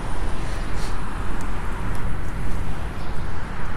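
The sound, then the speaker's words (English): A car idles or rolls up and pulls in on a street, its engine a steady low rumble with faint outdoor traffic noise, no voices present. “Are we going out in the street here? Left. Stay left. Oh, there's a car pulled.”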